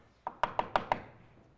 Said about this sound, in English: So one night, I was in a place I shouldn't have been with a woman who wasn't mine. And all of a sudden, we hear this knock on the door.